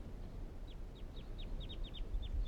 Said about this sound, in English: Recording the birds calling now again.